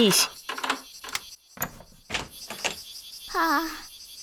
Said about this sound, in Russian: Быстро, открывай дверь!